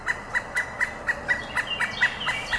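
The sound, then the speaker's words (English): A pileated woodpecker, a crow-sized black-and-white bird with a flaming red crest, calls in a rapid, evenly spaced series of about ten loud, ringing notes, with no other sounds or voices. “Here, Bill is queuing up the song, the call. Listen.”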